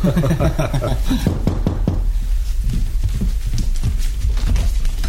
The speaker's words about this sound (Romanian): Iată numărul 6. Am sosit. Bateți în ușă, soneria defectă.